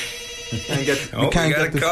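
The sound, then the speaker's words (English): A telephone rings with an incoming call continuously for a couple of seconds, its bright, warbling electronic tone moderately loud, with no talking over it. “We got a call.”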